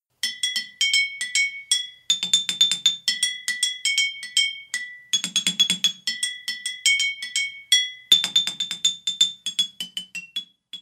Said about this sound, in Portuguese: Marimba de garrafas com água.